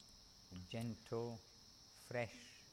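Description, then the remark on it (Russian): Crickets chirp at an ashram in a steady, high, continuous trill throughout, with a few short voiced murmurs rising briefly over the insect drone. “Сверчки”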